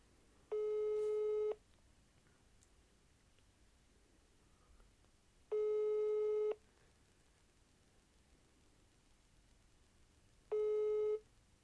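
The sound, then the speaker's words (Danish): A telephone ringback tone of an outgoing call sounds three times, each a steady electronic burst of about one second spaced roughly five seconds apart, clear and alone over a quiet line hiss, before the call goes to voicemail. “Vi kan jo lige prøve, jeg kan lige prøve at se, om jeg kan få fat i ham.”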